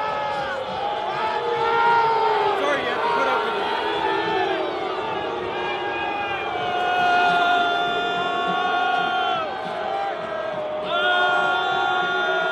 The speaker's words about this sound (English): I was expecting even more from Pats fans when it came to the booing. I was expecting that level of venom to last for minutes on end.